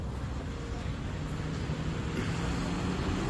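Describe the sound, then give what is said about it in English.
A steady wash of road traffic noise with a low engine rumble, continuous, rising slightly toward the end as vehicles pass. No one speaks. “You step off to the side so you don't get hit by traffic.”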